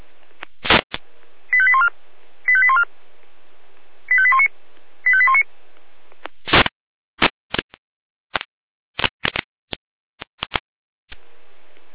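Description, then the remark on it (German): Fire brigade radio alert tones: four short bursts of stepped, beeping electronic tones in two pairs, followed by sharp crackling clicks and bursts of radio static. No one speaks. “Alarmruf.”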